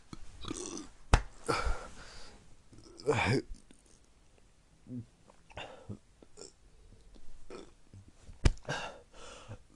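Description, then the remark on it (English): Two sharp, abrupt hiccups several seconds apart, fairly loud, with breathy throat noises and low murmured voice sounds in between. “Coughing and I have hiccups right now.”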